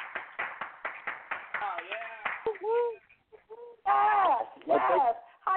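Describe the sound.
Steady, rhythmic applause with sharp claps at a quick even beat, then loud sliding whoops and cheering voices rising and falling in pitch, as a co-host is introduced.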